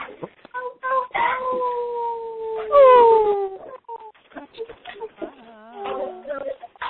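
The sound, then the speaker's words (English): Several coyotes howl and yip together, with long sliding wails overlapping short high-pitched yelps and warbles, fairly loud, continuing in a chaotic chorus for several seconds. “do we have any coyote for us?”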